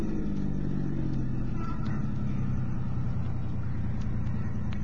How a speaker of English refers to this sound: All right, now pull up over there. Keep the motor running.